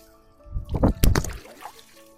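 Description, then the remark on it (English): Loud splashing as people plunge under cold water, with a couple of surging bursts that settle into sloshing and dripping. No one speaks. “So what we'll do, so we'll go under the water and we'll head over to the post-plunge warm-up where it's a lot warmer, we can get a better conversation going.”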